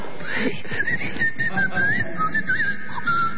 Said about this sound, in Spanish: No, señor, es el aerosol del limpiahorno. ¿Pero qué es como una espuma de afeitar? Algo así.